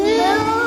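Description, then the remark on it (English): A child's voice makes a short, steady "moo" imitating a cow, answering what sound a cow makes while naming farm animals, a single loud sustained vocal tone lasting under a second. “And what kind of sound does cow make?”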